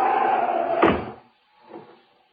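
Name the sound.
door being shut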